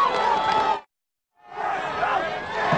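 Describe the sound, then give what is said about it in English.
The Glenwood crowd at a football game against Palisade roars and cheers in a dense wash of voices, cut off briefly by a second of silence before the roar swells back up. “Well, the Glenwood crowd has come alive.”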